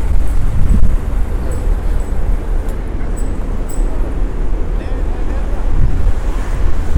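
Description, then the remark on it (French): A steady, loud rush of air roars continuously up from a metro ventilation grate, heavy in the low end like strong wind buffeting, with a few faint high tones flickering above it. “On entend que ça souffle.”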